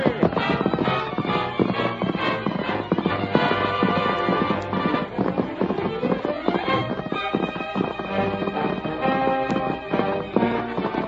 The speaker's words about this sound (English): The masked man and his faithful Indian companion urged their horses to their greatest speed, but swiftly as the two men rode, the fire had almost completed its work when they drew near the ranch house.